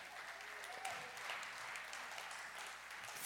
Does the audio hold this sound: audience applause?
yes